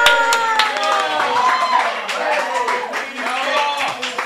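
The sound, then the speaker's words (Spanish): A show's audience applauds steadily for about four seconds before the mystery cartoon segment is explained, a dense wash of clapping mixed with loud cheering and overlapping shouting voices. “Pero sin aplausos no lo voy a explicar, ¿eh?”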